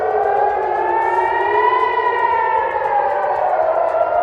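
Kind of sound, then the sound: signal or alarm, air raid warning sirens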